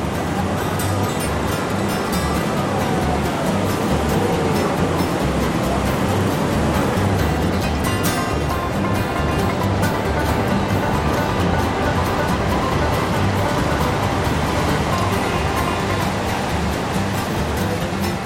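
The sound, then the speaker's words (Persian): A steady, powerful roar of rushing water from Niagara Falls, loud and continuous with a broad churning rumble and no pauses, heard on its own. “À l'extrême gauche des chutes.”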